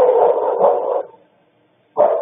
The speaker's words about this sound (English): Here are those sounds. A dog began to bark